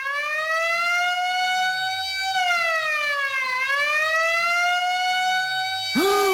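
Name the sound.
fire engine siren arriving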